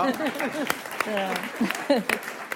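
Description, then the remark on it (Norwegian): A few sharp hand claps ring out among lively, overlapping voices and laughter-like sounds, with the claps coming irregularly rather than as sustained applause. “Jeg synes jeg kan klappe for det!”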